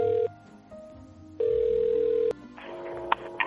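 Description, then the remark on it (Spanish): A phone line rings as Spanish radio station COPE calls an elderly woman at the San Antonio de Benajever care home in Valencia: two steady, mid-pitched ringback tones with a pause between, followed by a click and faint rustling as the line is picked up. “nos coge el teléfono en la residencia en la que está desde hace 4 años, San Antonio de Benajever, situada en la localidad valenciana que lleva el mismo”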